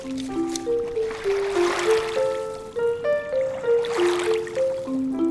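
Water laps and splashes in soft swells on the Hudson River, rising and falling in gentle surges, while a slow melodic tune plays steadily over it.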